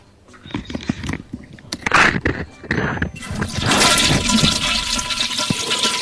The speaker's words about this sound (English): Put the microphone in the toilet and flush it.